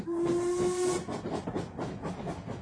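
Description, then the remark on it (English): A steam train whistle sounds for about a second over loud hissing steam, then rhythmic chuffing and hiss continue from a boat train. No voices. “I travelled by the boat train, taking with me, once again as my secretary,”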